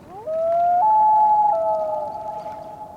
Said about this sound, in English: To hear a common loon in the wild during the summer, you'll need to find a northern freshwater lake where a pair is nesting.